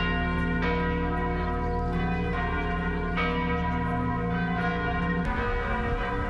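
Cathedral church bells across France ring out on Wednesday, 17 April, to mark 48 hours since a fire began, in a dense, sustained peal, with new strikes landing roughly every second over a rich, lingering wash of overlapping tones. No voices are heard.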